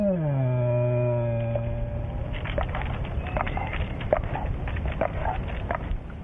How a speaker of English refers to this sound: Some people have described it as a growl. Because if a person is afraid of an animal, any sound they make will be interpreted as a growl. But it's just their moan of fear. The bear sitting up in a tree in abject terror.